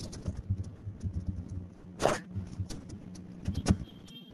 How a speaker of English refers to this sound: Who is typing there? I think it's such a... No, this is typing. Okay. From the mic of the laptop. Somebody doesn't use a headset.